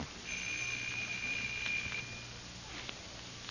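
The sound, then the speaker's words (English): A doorbell at apartment 212 buzzes once in a steady, high, sustained tone lasting under two seconds, fairly faint against quiet background hiss, with no one talking. “Why don't you try the bell?”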